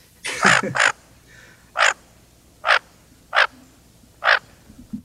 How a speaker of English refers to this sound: I'm going to replay that duck call that we had in the intro and ask you to identify it. Here we go.